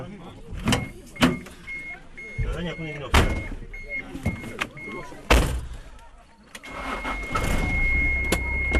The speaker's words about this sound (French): Après 3 heures d'effort, la voiture repart enfin.